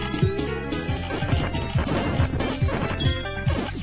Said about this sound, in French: La bande-son n'est pas en reste, avec des voix digitalisées, des musiques de qualité collant bien à l'action. Et même les explosions stéréophoniques sont de grande qualité.